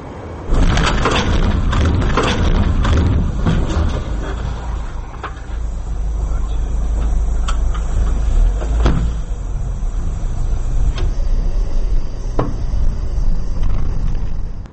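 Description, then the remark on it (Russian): Dashcam recording of a car crash, filmed from a car passing in the oncoming lane: steady engine and road rumble from inside a moving vehicle, broken by several sharp knocks and thuds scattered throughout, with no voices. “Давайте посмотрим вот эти трагические кадры, снятые с видеорегистратора одного из проезжавших по встречной полосе автомобилистов.”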